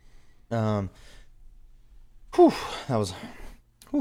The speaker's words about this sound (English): I was about to cough big. I had to stifle that cough right there. It's all right, bro. I let out a sneeze. Yeah, you did hit one of them sneezes.